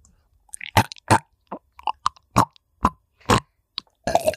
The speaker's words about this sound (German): Jetzt nehme ich mal mein Mikrofon in den Mund.